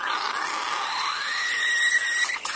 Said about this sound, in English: that's an espresso machine. Okay, it's an espresso machine. What does that mean? There isn't a mother that goes into Starbucks that doesn't hear that and think, my God, my child.